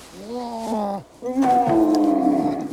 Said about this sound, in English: Are you growling at me? Comet nods.